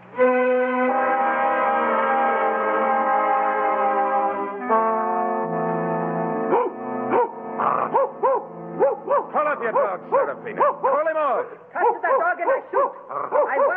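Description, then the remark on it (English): A dog in Italy barks and yips in a rapid, uneven string of short, loud calls, following several seconds of a steady sustained tone. “Then tell your dog to lay off and put down your rifle.”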